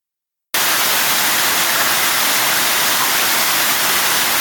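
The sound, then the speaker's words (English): Rain from a heavy rainstorm striking the ocean surface, recorded from underwater, begins abruptly after a short silence and continues as a dense, loud, steady hiss much like static. “This is a recording that was underwater, and it's the sound of rain hitting the top of the ocean.”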